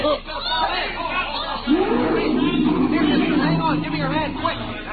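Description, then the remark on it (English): Overlapping voices of a crowd of kids and grown-ups at the lion pits of a crowded zoo park chattering at once in a steady babble, with a sustained low tone running underneath from partway through. “I drifted close with the rest of the crowd, leaned over the iron railing that ran along the edge of the moat, and then...”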